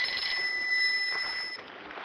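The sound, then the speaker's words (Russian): A phone rings with a steady, high-pitched electronic trill that holds for about two seconds with no pauses. No one is talking over it. “Я даже знаю, кто это звонит.”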